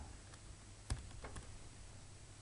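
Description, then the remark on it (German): A handful of soft, irregular keyboard clicks as a password is typed while setting up a database server, over a faint low hum, with one sharper tap standing out among quieter keystrokes. No one speaks. “Schauen wir mal, ja, habe ich das Richtige getippt?”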